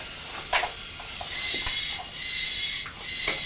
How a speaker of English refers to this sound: Sounds like a pig screaming, I think. It's not, it's a train. I know it's a train, because it sounds like a piggy squealing.